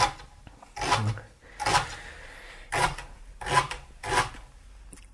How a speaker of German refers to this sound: Was da so knirscht, ist der Lauch.